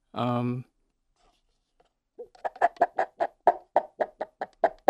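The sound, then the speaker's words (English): A short voiced squawk, then a pause, followed by a fast, steady run of about a dozen crisp clucking taps, a foley imitation of a chicken clucking. “Oh, okay, a chicken clucking.”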